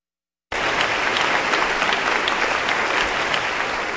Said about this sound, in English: Applause for the English Chamber Orchestra, violinist Jose Luis Garcia, and conductor Raymond Lepard, with a suite for violin and chamber orchestra by English composer William Patrick Gowers.